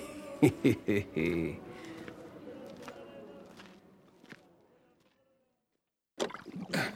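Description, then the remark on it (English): Oars dip and splash in water with a few quick strokes and wooden creaks as a boat is rowed away from an island, fading to a quiet wash and then silence before a voice starts near the end. “You know, when I came to this island, the boat did all the rowing.”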